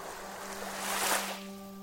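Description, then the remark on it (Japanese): Ocean waves wash ashore on a sea glittering in the morning sun: a soft, steady hiss swells into one louder surge and then eases back, with a faint constant low hum underneath and no voices. “目の前に広がる海は朝日にきらめきながら、おかえりと微笑んでいる。”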